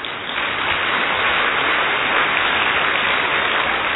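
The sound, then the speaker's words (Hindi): Loud, sustained applause from a large crowd, a dense steady wash of clapping that holds at full strength for the whole stretch with no voices standing out. “संतुष्ट हो तो जोरदार ताली बजाओ।”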